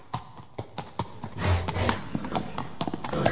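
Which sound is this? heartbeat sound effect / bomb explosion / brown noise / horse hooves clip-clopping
horse hooves clip-clopping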